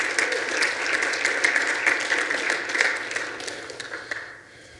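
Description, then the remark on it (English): An audience breaks into steady applause for the Lord during a sermon, many hands clapping in a dense, bright patter that holds fairly loud for about four seconds before fading quickly at the end. “Go ahead, give the Lord a hand clap.”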